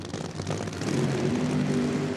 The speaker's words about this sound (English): If the sound of that nitromethane supercharged engine makes you go all wobbly, the National Hot Rod Association has the sport for you. Top fuel dragsters, known as funny cars, accelerate to over 300 miles per hour.